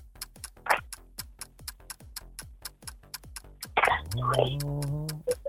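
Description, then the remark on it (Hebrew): A quiz game clock ticks steadily and quickly, each tick sharp, running through the whole stretch while a contestant answers; near the end a voice speaks over the ticking. “השעון מתקתק, והצליחה לענות.”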